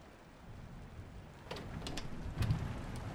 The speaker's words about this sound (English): Why's the window open? The rain's getting everywhere.